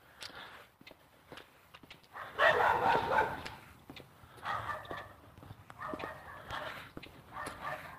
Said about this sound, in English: Okay, a lady with two little dogs is trying to keep them under control.